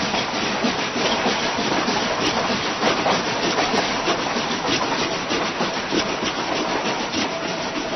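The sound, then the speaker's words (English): Steady, dense rubbing and scraping that chugs along like a train on rails, constant in loudness throughout, with no voices; an eraser rubbed on paper mimicking a moving train. “This one, that train was being propelled by an eraser rubbing on paper.”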